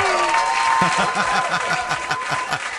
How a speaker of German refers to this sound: Und das ist mir schon mal einen Applaus wert. Super!